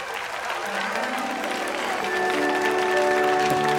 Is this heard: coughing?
no